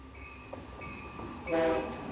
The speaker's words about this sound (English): An Amtrak train arrives at the station, and FDOT officials say Sunrail trains are not that far off either.